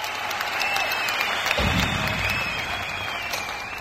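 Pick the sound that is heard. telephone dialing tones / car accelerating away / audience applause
audience applause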